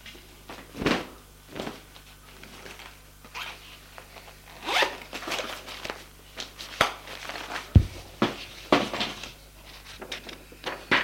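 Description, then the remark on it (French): A suitcase being unzipped to take out a toiletry bag and a bathrobe, in several quick, rasping bursts of uneven length, with short pauses between pulls and a soft thump partway through, no voices. “Une fois la porte fermée, elle ouvre sa valise pour prendre son nécessaire de toilette et un peignoir de bain.”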